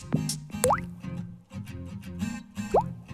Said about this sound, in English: There was a kind of snare-y sound initially, and then Liz suggested a water drop sound.